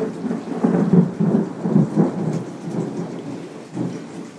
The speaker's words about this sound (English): Nice big thunder. As it rolls away and moves. I love that sound. It sort of moves across you from right to left.